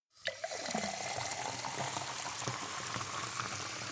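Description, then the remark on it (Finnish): Water gushes steadily from a tap into a glass, starting abruptly and running on as a continuous splashing hiss with a faint rising tone as the glass fills. No one speaks. “Kun otat kraanasta lasillisen vettä, sinulla on osa maapallon historiaa käsissäsi.”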